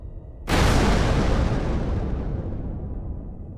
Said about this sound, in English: But then, maybe 1.5 kilometers away, the blinding light from the nuclear explosion overwhelmed us.